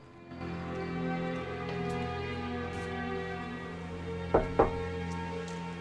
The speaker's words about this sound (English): knocks on her dad's office door.